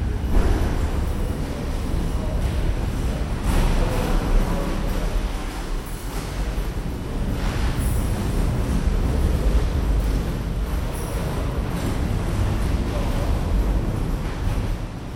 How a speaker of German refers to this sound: Drei Häftlinge tauchen auf, schieben metallene Rollwagen vor sich her.